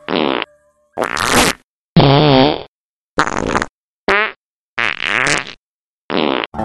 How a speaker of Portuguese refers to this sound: Ouça agora uma sessão de peidos e tente imaginar o cheiro.